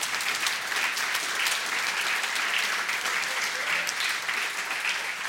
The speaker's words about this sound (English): There we go. There's a clap.